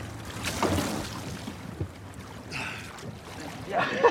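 A boat passes by with a low steady rumble and churning water, its wake swelling into a louder splash of waves near the end as the boat makes a wave.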